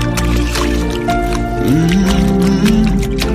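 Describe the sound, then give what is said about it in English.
Water drips and splashes in quick, irregular bursts over a steady low hum with a faint sliding tone in the background. “Touching everyone that hears this sound. Believe in water.”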